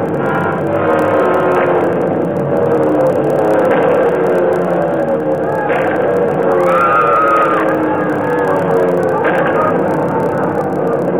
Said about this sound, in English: And then the planes came. German planes. They dropped out of the sky, swarmed down toward the road and the bus. It didn't seem possible that they were trying to kill us.